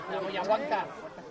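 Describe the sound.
A large crowd gives a tremendous ovation at the doors of the Basilica: a dense, steady roar of cheering and clapping with many voices blended together, fairly loud throughout the short clip.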